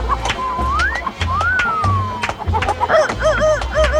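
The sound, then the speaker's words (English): Chickens cluck in quick, repeated bursts over a thumping, bass-heavy music beat at a rooster nightclub in the Chicken Coop, with a couple of rising whistle-like tones mixed in near the start. “All rooster nightclubs, chickens named Bubbles taking their clothes off.”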